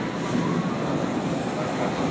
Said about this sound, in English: So I'm on the train on the way to the podcast, which will be happening in Kaechung today.